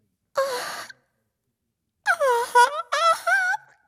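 A voice imitates a wide, drawn-out yawn of a woman walking along: a brief groaning start, a pause, then a longer stretched yawn with rising and falling pitch, fairly loud, with no words.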